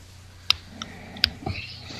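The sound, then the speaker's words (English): Quiet rustling and handling noises: a few sharp little clicks and taps, then a short stretch of soft scuffling, with no one talking. “Okay, I think the bathroom break is almost up. I hear rustling.”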